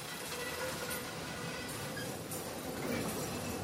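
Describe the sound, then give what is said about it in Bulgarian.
Steady metallic clattering and rumbling of mine cars rolling along the track at the Orlovo Gnezdo mine, between Aytos and Burgas, in 1938. It is a dense continuous rattle with faint squeals, loud throughout, with no voices. “Чува се тракането на вагонетките.”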